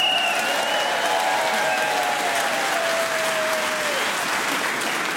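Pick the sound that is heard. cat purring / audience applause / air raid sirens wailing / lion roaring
audience applause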